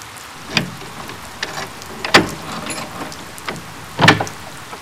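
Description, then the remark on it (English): Heavy rain falls in a steady, dense hiss, broken by a few sharp clunks and bumps like doors opening and closing, as people go from a car to inside. No one speaks. “Jeez, where the hell did that weather come from? We only had to get from the car to inside, but I am soaked.”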